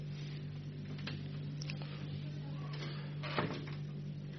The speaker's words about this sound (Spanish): Me parece que va a salir volando ese aire acondicionado. Es este, ¿no? Está vibrando medio.